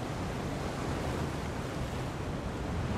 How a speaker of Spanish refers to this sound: Esa noche, el mar era negro y frío. Las olas inundaban la parte delantera del barco y se levantaban a los lados como enormes paredes de agua.